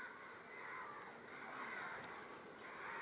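ravens cawing

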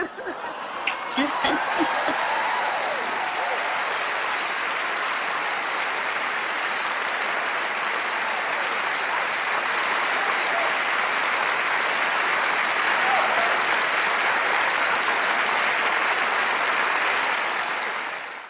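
applause

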